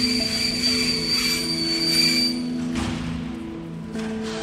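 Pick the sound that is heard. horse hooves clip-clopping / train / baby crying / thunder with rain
train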